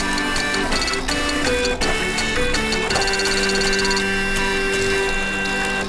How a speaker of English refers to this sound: And those were the sounds of the Brother Printer Orchestra